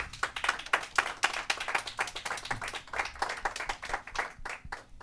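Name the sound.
applause welcoming guests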